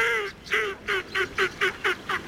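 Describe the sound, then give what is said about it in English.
A Northern shoveler duck gives a steady run of about eight short, nasal calls, evenly spaced, after one longer opening call, with no voices. “Northern shovelers are social birds that often forage together in large flocks.”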